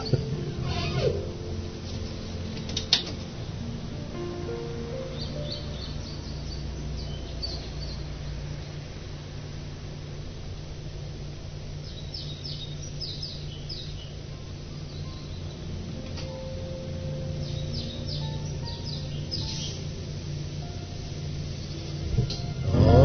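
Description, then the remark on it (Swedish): A blackbird sings faintly outside, scattered fluting phrases with pauses between them, heard through a window over a steady low indoor hum. No one speaks. “Så håller de på, koltrastarna, eller jag kallar det för det, det tycker jag låter bra.”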